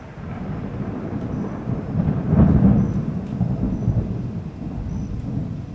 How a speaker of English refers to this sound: Most of the thunder and lightning is just thunder and lightning